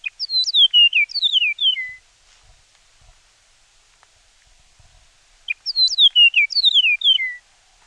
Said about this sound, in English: The Chihuahuan meadowlark's song is also distinct. Here's an example of what it sounds like.